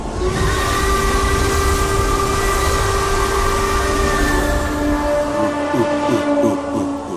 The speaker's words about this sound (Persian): وای، یه قطار عجیب و غریب باربریه. فقط عجیب و غریبه. توجه کنید، بعد از اینکه سوار قطار تک سفره شدین دیگه برگشتی ندارین.